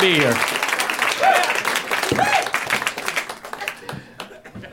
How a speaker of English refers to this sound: I know that's all for me. I know I'm the one you're applauding for. I appreciate it. I totally appreciate it.